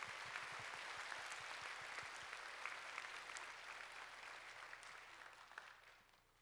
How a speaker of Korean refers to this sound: 오늘 찬양대가 아주 2010년부터 이제까지 부르는 게 최고로 은혜로운 찬양을 불렀습니다. 우리 한번 찬양대 크게 박수 한번 하세요.